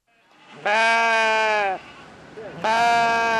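sheep and goats bleating

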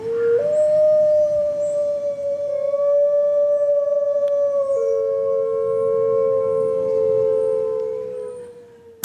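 gray wolf howling

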